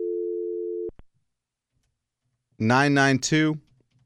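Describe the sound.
A steady, low electronic telephone keypad dialing tone holds for about a second as a phone number is dialed, then cuts off with a click. After a pause, a voice briefly speaks.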